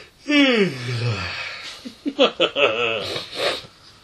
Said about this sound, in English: I'm going to yawn to give it some atmosphere.